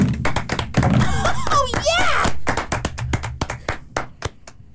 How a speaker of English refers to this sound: Woo, clap it up, clap it up.